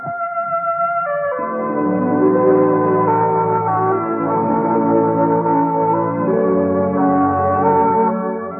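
Clear NBC Radio network identification chimes of three notes ring out loud, their rich tones sustained and blending into a lingering, organ-like sound with no voices.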